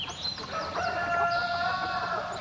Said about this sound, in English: Why is the crowing of a rooster so regular, so persistent? Well, within the world of chickens, the established pecking order has the rooster at the top, and apparently each new day is an opportunity to remind all others of his dominance.